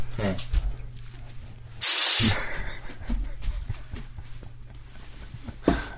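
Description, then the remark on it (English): A single sharp, loud blast of compressed air from a can of keyboard cleaner, sprayed into a person's face to wake them up, a bright hiss lasting about half a second, set among people talking and a steady low hum. “You didn't wake up until I shot you in the face with keyboard cleaner.”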